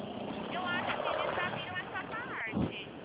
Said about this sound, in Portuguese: Nossa, desculpa, eu não te ouvi que está passando carro aqui, perdão.